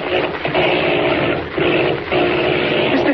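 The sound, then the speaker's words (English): A loud, rough aircraft engine drones steadily, its roar briefly dropping and sputtering a few times before surging back. The plane's motor is failing from a broken oil line as the plane searches for a landing place in darkness. No voices are heard. “As our story continues today, the plane with its motor failing and Kent at the controls searches desperately for a landing place in the great darkness below.”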